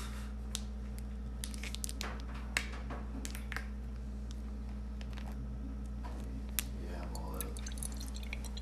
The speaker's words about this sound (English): You're pouring my Gatorade. Yeah, because I'm only having a little bit and putting the rest in the fridge.